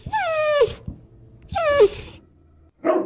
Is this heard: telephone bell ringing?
no